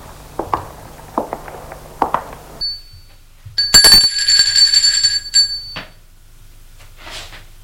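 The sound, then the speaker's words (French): A doorbell at the door of a house rings with a bright, sustained metallic tone lasting nearly two seconds, preceded by a few soft footstep-like thuds and followed by quiet shuffling. “Elle va sonner à la porte de la maison.”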